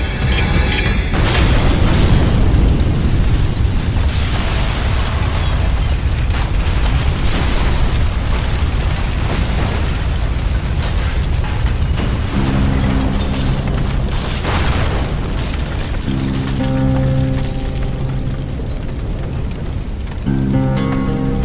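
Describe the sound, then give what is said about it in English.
A sudden loud blast gives way to a steady, roaring wall of crackling fire that stays loud throughout, with low sustained tones rising beneath it in the latter half. “Lovely night for a bonfire.”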